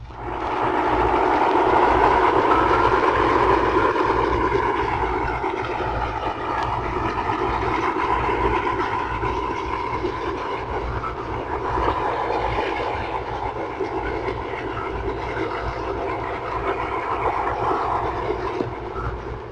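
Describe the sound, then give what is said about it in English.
A surfaced submarine's diesel engines roar steadily and loudly, a dense continuous rumble with a low throbbing hum underneath and no voices, holding at the same intensity throughout. “When running on the surface, a submarine usually operates on its diesel engines, which produce a roaring sound.”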